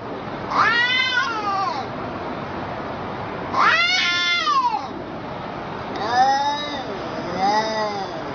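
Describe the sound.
A cat yowls angrily in a series of long, warbling meows, three or four drawn-out, almost talk-like cries over a steady background hiss. This is the internet cat video The Angry Talking Cat.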